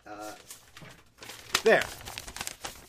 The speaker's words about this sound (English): I know you can hear that the paper with nothing on it is sounding more like a cloth because I rattle the thing around week after week. And maybe I need a new one. Let's get a new empty paper to rattle around here.